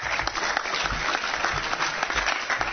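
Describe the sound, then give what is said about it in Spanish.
An audience applauds steadily for a young man called up to help the speaker, a dense wash of many hands clapping at once with no pauses or voices breaking through, holding an even loudness for a few seconds. “Dele un aplauso aquí, brother.”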